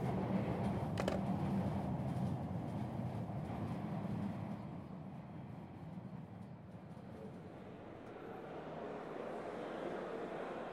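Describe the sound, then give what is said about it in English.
A train rumbles steadily along the rails, a continuous low, heavy roar with a brief sharp clank early on, easing slightly quieter midway before swelling again. No voices. “Trains are moving slow these days because, you know.”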